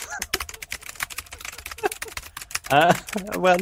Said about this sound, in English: Well, I'm the only one who's not typing right now. You guys are,